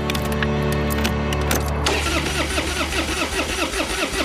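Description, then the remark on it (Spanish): A car engine cranks over and over with a loud, rhythmic churning from the starter, never settling into a steady idle. The car will not start at a highway service area, though it has fuel and battery. No voices are heard. “No lo sé, que no quiere arrancar.”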